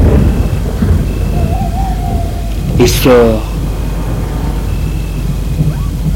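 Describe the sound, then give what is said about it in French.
A thunderstorm rumbles low and steady throughout, with a sharp, sweeping burst of noise about halfway through, while a voice speaks briefly over it. “L'orage fait rage.”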